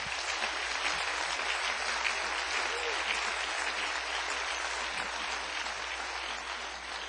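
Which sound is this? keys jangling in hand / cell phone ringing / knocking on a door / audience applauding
audience applauding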